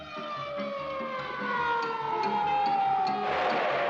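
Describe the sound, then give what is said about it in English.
An ambulance siren wails with a long gliding pitch, growing slightly louder, over a steady pulsing rumble underneath; no one speaks. “quick, send an ambulance.”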